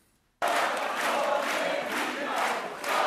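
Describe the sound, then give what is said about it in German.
A large crowd cheers and shouts loudly and continuously after a brief silence, with surging waves of voices, celebrating Hannelore Kraft's election victory at an SPD victory party. “Eingerahmt von Mann und Sohn lässt sich Hannelore Kraft feiern.”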